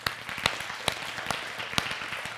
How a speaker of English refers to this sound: And so instead of ending off with that, I just want to give Jesus a round of applause. Can we do that?